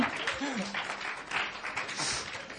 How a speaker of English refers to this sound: Okay, give yourself a round of applause. Gib euch mal selber einen Applaus dafür.